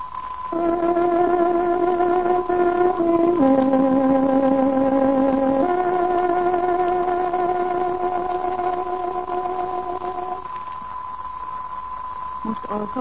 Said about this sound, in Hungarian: Kedves hallgatóink, fontos időjelzést adunk. Tárogatónk 23 órát jelent.